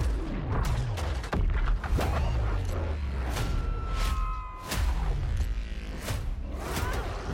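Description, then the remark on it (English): Repeated loud explosions and gunfire from a two-player co-op video game boom in a dense, chaotic barrage, with sharp blasts and rumbling low-end impacts overlapping throughout, plus a few whooshing sweeps and tonal game effects. “We sure cause a lot of explosions.”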